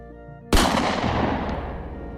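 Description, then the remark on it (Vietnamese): A single sharp warning gunshot, fired into the air, cracks out loudly after a quiet, low hum, its blast lingering in a long rumbling echo that fades slowly. No one speaks. “Một tiếng nổ đanh lên trời dọa dẫm.”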